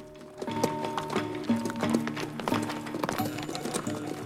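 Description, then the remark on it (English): Two horses' hooves clip-clop steadily along a narrow mountain trail near a summit, one horse led by the reins directly behind the other; a regular rhythm of sharp knocks with some faint tonal sounds mixed in over a constant low rumble. “Pete presses on, holding the reins of Mike's horse, which is following directly behind his.”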